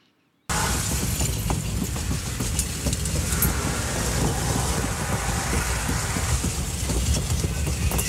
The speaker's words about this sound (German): Du, wann kommst du an? Ich bin am Bahnhof, das heisst so in 5 Minuten.